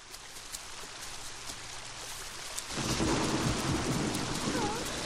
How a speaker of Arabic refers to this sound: فعلاً يا أصدقائنا الحلوين، راحت النملة تتجول لوحدها في الغابة، وفجأة وهي تمشي بدأت السماء تمطر مطراً شديداً.